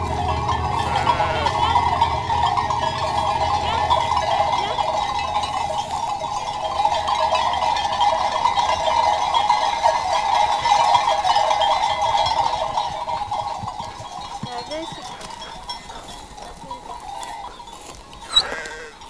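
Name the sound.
flock of ewes bleating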